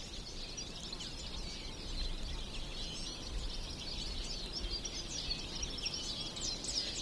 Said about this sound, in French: Et ces oiseaux, ils vous emportent.